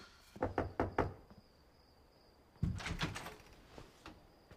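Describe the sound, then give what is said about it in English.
Four quick knocks rap on a door, then after a short pause the door is pulled open with a solid thud and a brief rattling scrape that fades into quiet. “Wendy goes to the door.”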